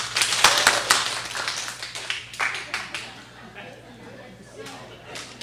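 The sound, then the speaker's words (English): A crowd claps once together, a dense, slightly ragged burst of sharp claps in the first second, followed by a few scattered stray claps and low murmuring. “Everybody clap one time.”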